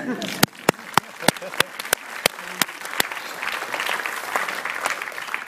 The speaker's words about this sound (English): Do you want to have a clap? Have a clap.